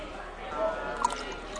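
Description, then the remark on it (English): Soft, steady trickle of water being poured, fairly quiet, with a couple of small bright splashes partway through and faint voices murmuring underneath. “He's pouring water as we speak, which I think is amazing.”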